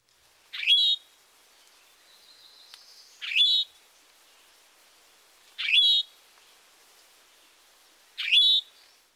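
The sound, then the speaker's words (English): A rufous-sided towhee gives four loud, buzzy call notes, evenly spaced about every two and a half seconds, clear against a quiet background with no talking. “The towhee call note is a loud towhee.”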